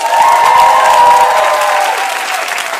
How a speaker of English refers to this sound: No, but do you know how hard it is to be Indian and to say you're gay in a room full of people? Clap harder.